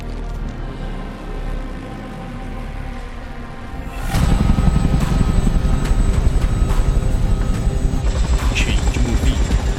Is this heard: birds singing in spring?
no